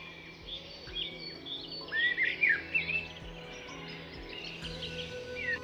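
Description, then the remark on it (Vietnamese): Several birds chirp and trill in a soft outdoor chorus on a bright, sunny early morning, with a brighter run of whistled notes rising briefly near the middle before settling back into quieter twittering. “Sáng sớm hôm nay, thấy mặt trời tươi sáng, hoa thơm chim hót”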